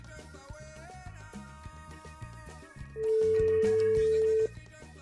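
A phone call being placed to an interview guest during a live radio show, with a single loud, steady ringback tone lasting about a second and a half, heard over quieter background music.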